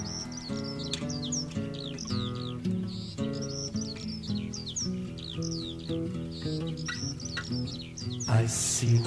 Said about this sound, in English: In the sky, a bird was heard to cry.